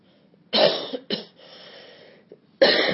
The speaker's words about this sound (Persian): واسه اینکه بچه این منم مثل شما، من کل خونه ما مثل شما الان دارن سرفه میکنن. من نمیدونم چند وقت صبح، که الان دو سه هفته است، فقط صبح که بیدار میشم اینطوری بعد سرفه میکنن.